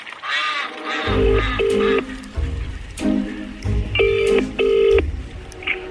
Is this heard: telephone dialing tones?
yes